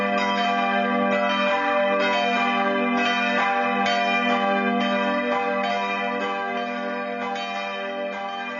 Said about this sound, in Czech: My jsme právě teď slyšeli vyzvánění zvonů v Dubném u Českých Budějovic a to znamená, že dnes bude řeč o zvonech a zvonařských rodech.